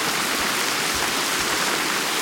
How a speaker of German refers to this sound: Ja, ihr hört es. Es regnet.